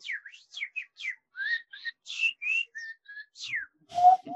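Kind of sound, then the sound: vocal imitation, whistled bird call imitation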